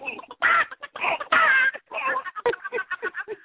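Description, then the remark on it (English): A person imitates a chicken, making a run of loud, squawking clucks followed by quicker, choppy clucking bursts, with no other talk. “Do some animal sounds for us. Do some of the sounds.”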